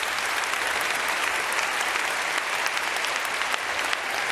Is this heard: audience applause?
yes